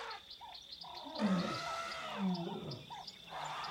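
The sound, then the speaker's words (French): A dense wildlife chorus in the Kenyan savanna, recorded in 1983 from a tent: a steady high insect drone with pulsing chirps, frogs croaking, and a couple of deep, rumbling animal calls rising out of the mix, with elephants and hyenas among the voices, no human voices. “Et il réalise soudain que les voix des éléphants, des hyènes, des grenouilles, des insectes s'articulent et se complètent sans se fondre les unes dans les autres, dans un mélange de coopération et de compétition pour se faire entendre,”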